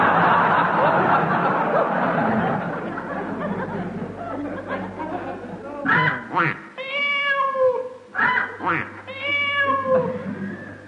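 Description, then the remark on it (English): A person's voice imitates a chicken, a duck and a cat in turn: a few seconds of rough squawking give way to a couple of long, drawn-out falling meows, loud. “That was a chicken duck cat.”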